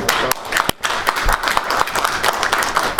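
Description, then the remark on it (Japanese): A group at a meeting applauds to show majority approval of the choice of chair: many overlapping hand claps blend into a dense, steady patter that stays fairly loud for about three seconds, with a brief dip near the start. “この拍手は賛成多数と取ってよろしいでしょうかね。”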